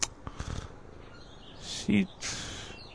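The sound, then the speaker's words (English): Soft rasping and wet smacking noises come in a few short bursts, the sound of Fatso, a female cat, licking herself, with a brief low murmur in between and no talking. “She keeps licking herself instead of chatting with me.”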